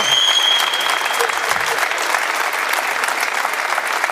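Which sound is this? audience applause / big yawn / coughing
audience applause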